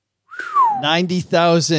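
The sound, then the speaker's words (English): A person gives a short, clear whistle that slides downward in pitch, and a voice starts talking right after it. “Why'd you whistle?”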